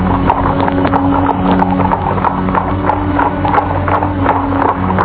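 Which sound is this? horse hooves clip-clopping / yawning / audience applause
horse hooves clip-clopping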